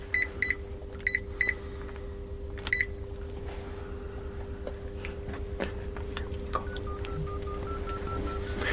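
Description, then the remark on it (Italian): Several short electronic dialing beeps from a red telephone in quick clusters near the start, then a rising series of steady tones later, all over a constant low engine-like hum with no talking. “Chi posso chiamare? Un attimo. Vediamo, telefono rosso, via.”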